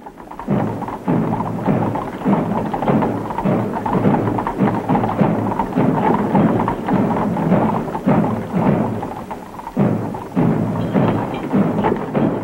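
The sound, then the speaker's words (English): Muffled drums beat in a steady, slow rhythm, with a dull rumbling roll underneath, continuous and fairly loud throughout, with no voices, as an assassinated president's flag-draped coffin is carried by horse-drawn cart from the White House to the Capitol before hundreds of thousands of onlookers. “The president's flag-draped coffin, transported from the White House to the Capitol by horse-drawn cart to the sound of muffled drums, as hundreds of thousands watched and millions around the country.”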